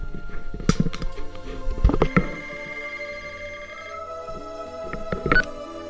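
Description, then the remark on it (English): Muffled knocks and handling thumps as a phone with an incoming call is brought up to a microphone, then a steady electronic telephone tone drones for a couple of seconds before more clunks; no one speaks. “I'm gonna go ahead and put the mic up to the phone, or you're gonna hear this.”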